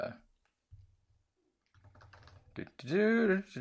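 Rapid, light clicking of keys on a computer keyboard, a quiet patter of keystrokes that builds briefly before a short, loud voiced sound cuts in at the end.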